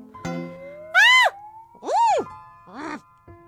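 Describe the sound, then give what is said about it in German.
A human voice imitates a brown bear screaming and snorting, with three rising-and-falling cries, each high and strained, the first loudest and the last shortest, separated by brief pauses. “Ein Braunbär schreit und schnaubt so.”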